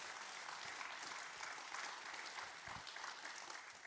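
An audience claps their hands in sustained praise of Jesus, a dense wash of many hands applauding steadily, with no speech over it.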